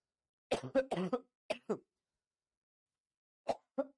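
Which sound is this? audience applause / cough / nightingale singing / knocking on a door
cough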